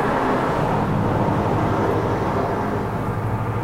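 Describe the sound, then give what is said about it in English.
A steady, heavy engine rumble from a convoy of military trucks from a Marine base rolling past in the daytime, deep and continuous with no break in loudness. “Convoys from the Marine base.”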